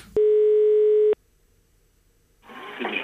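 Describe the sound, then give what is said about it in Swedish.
A telephone rings once with a steady, buzzy electronic tone lasting about a second as a taxi driver calls, then cuts off into near silence before a muffled, noisy line opens up. “Nu ringer taxichauffören upp, och det är väl inte tryggheten själv.”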